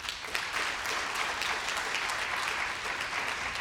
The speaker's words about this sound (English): Clap if you have a friend, I mean a friend, not just an acquaintance, a friend with dramatically different political views. Well, good for you all. Now clap if you have lost a friend over a political feud.